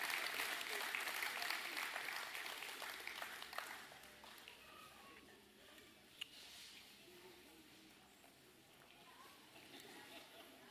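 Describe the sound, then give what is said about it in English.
A church audience claps for the kids and youth as they are dismissed, a dense, steady burst of applause that thins out after a few seconds into scattered claps and low crowd murmur. “Big round of applause. Y'all clap for the little ones.”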